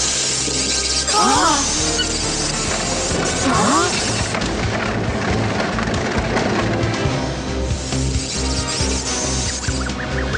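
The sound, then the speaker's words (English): Loud, continuous electric crackling and booming lightning strikes fill the scene, with two rising-and-falling squealing cries cutting through early on. “You'll be safe from the lightning in here.”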